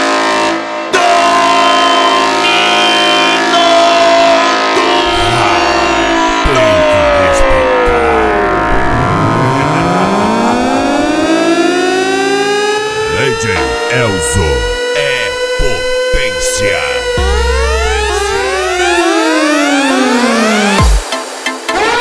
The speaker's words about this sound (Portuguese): LTS, a corneta do racha.